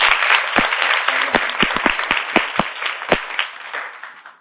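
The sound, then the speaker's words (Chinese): A class audience applauds in encouragement at a teacher's request, with dense, steady clapping for a few seconds. A few louder individual claps pop out of the wash before it begins to thin toward the end. “掌声鼓励一下。”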